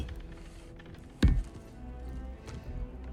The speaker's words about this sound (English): Thor bangs bottle down as he sits.